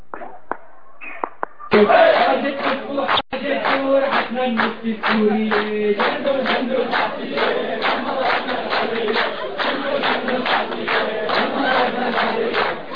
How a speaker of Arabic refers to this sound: إلى دير الزور فكانت هتافات المتظاهرين تعانق الأجواء في الشحيل والجبيلة. وهنا يلتقي الإخوان المهللين مكبرين وهاتفين للمناطق المنكوبة.